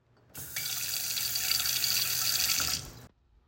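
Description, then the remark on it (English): Water gushes steadily from a tap into a sink that is shooting water back out, for nearly three seconds, a bright hissing splash with a low rumble underneath, starting abruptly and cutting off cleanly. “Why don't you throw some ice cubes in, run the water and turn it on, see what's actually going on.”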